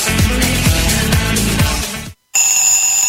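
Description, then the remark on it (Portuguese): A couple of seconds of upbeat music cut off by a brief silence, then an alarm clock starts ringing with steady, piercing high tones, loud, introducing the Web Putz station's morning program Despertador Web Putz. No one speaks. “Despertador Web Putz.”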